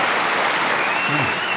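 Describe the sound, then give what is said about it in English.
An audience claps along steadily and densely to a performance for the whole stretch, a loud, continuous wash of many hands with no pauses. “You even clap along aggressively, don't you?”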